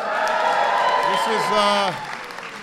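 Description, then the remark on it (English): An audience claps steadily while voices cheer and whoop over the applause, welcoming the musical guests at a Hanukkah event at the White House. The sound stays full and loud, then drops to a softer, thinning patter of clapping near the end. “Before we begin, let's give a big round of applause to our musical guests,”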